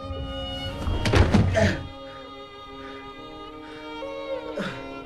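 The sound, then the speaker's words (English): The character Broken Sword collapses onto the floor with a heavy, muffled thump and a brief scuffling clatter, then quiet except for a steady droning tone and a few soft later rustles. “Broken Sword collapses to the floor.”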